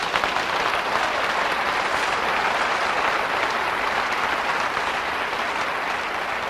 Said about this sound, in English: I don't know about you, but there's a great appreciation in my heart for the Hagin family tonight. Give them a hand clap, would you?